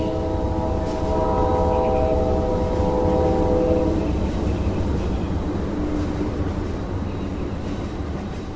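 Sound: train departing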